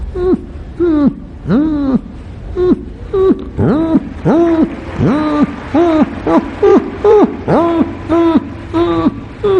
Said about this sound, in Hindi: कुत्ते के पिल्लर जब मां चली जाती और टेंशन में होते तो उनकी स्वाभाविक ध्वनि क्या होती है।